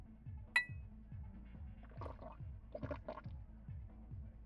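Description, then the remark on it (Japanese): A single bright clink of glasses rings out near the start, short, as two people toast, then fades into soft liquid sounds over a low, steady pulsing background. “それでは一人寂しいお兄さんとの出会いに乾杯。”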